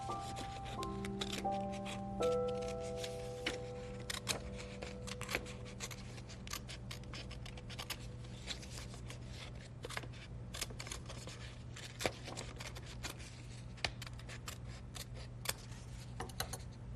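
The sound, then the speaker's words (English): Scissors snip through paper to make paper birds on straws, in quick, irregular bursts of crisp clicks and rasps, fairly quiet, with a low steady hum and faint tones lingering underneath. “Just here, a couple pieces of paper, some scissors, and some tape.”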